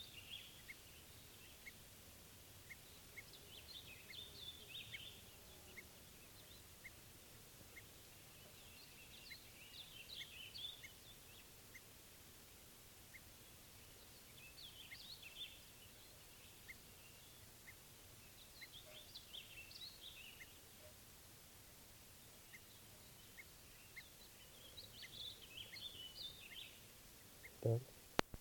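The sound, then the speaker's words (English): Faint, high bird alarm calls, played back for bird 387 while recording, repeat in short bursts about every five seconds against a quiet outdoor background with about four wild birds present, sounding like played-back calls rather than live birds. “playing alarm calls here for 387.”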